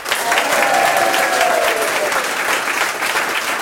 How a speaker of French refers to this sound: Le jeu va partout, dans les métropoles comme dans les villages, ça c'est formidable. Aujourd'hui, c'est vraiment un village rural qui nous accueille et qui applaudit nos candidats sélectionnés,